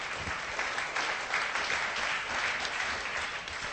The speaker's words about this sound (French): Est-ce que... oui, on peut l'applaudir.